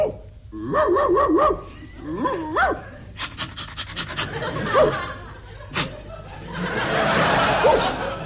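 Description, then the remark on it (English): Impressionist Percy Edwards imitates a dog with his voice: rising whiny yelps and a few sharp barks, then a run of quick, rhythmic panting breaths, all fairly loud with no other talking. “That dog, it's given me a lead.”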